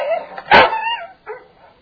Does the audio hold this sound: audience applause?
no